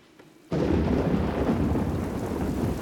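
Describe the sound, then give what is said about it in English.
After a brief quiet moment, a loud, steady roar of wind and heavy rain bursts in and sustains, with deep rumbling like a thunderstorm. “The days are long as Penny holds tight against wind and rain that give her a fight.”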